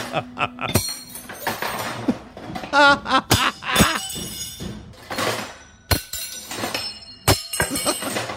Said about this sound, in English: So he's on the kitchen counter. He's opened a drawer. And he's taking knives, forks, and spoons out of the drawer and throwing them on the ground because he's mad.